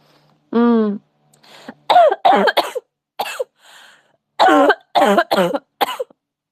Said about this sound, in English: My gross cough. I'm sorry.